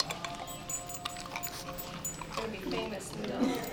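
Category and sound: animal, dog vocalizing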